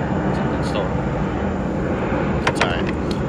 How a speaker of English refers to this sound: There's a plane above us.